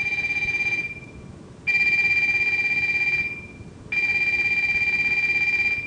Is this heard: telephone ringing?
yes